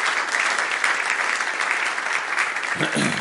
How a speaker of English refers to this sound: And the choir, let's give all of them a round of applause tonight. It's been exceptional.